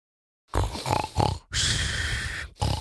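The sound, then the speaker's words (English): A voice imitates snoring: a short run of rough, pig-like snorts, then one long, raspy, steady rattle, and the start of another snore at the end. “Now, you don't want to snore.”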